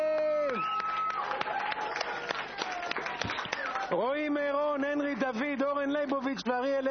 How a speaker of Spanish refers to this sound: Felicitaciones, aplausos para ellos. Son grandes.